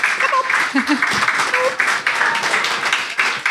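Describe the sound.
A crowd applauds steadily for a few seconds as a thank-you during a quick presentation, a dense patter of many hands at a fairly loud, even level, with faint voices murmuring beneath it.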